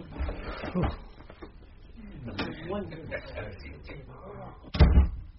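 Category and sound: household object, door opening and closing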